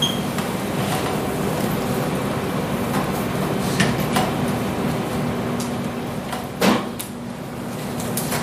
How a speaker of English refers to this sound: I normally have to hit my overhead printer at some point so it stops rattling.